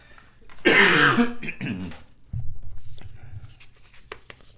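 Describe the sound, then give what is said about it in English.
A loud burst of coughing and throat clearing, a harsh rasping cough followed by a shorter guttural clear, then quieter low rumbling shuffles and faint clicks. “Excuse me while I cough.”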